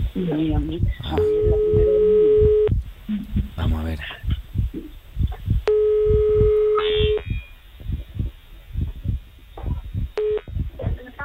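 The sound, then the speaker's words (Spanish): A telephone line ringing during a live radio call: long, steady ringback tones repeat at regular intervals, a third just starting at the end, over a rhythmic low thumping like a heartbeat, while a man speaks briefly. “Vamos a llamar a Carmen, ¿eh? Venga, vamos a llamar a Carmen. A ver si hay suerte que nos coja el teléfono.”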